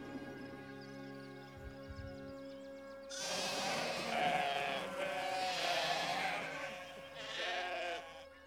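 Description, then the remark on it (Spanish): Sheep bleat loudly on a farm, several overlapping calls in drawn-out waves, after a few seconds of low steady hum with no voices. “De nuestra granja, colega. Con ovejas para tu lana.”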